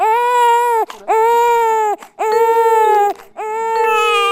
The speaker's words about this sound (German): Wir sagen zum Beispiel Mama oder Papa und in dieser auf- und abfallenden Linie weinen im Durchschnitt auch die meisten deutschen Babys.